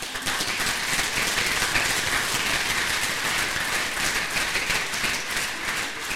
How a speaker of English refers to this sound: And welcome him. Give him some applause.